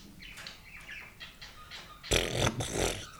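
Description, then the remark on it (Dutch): A few light, chirpy tones give way to a loud, sudden splash as a little crocodile jumps into water after a count of three, a broad rushing burst lasting about a second before fading. “1, 2, 2,5, 3 en plons.”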